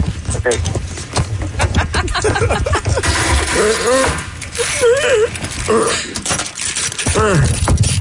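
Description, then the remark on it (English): Keys jangle in a steady run of bright metallic clinks and rattles as someone reaches for them with one arm, as if fishing them out, with muffled vocal sounds wavering underneath. “Let me see if I can reach my keys.”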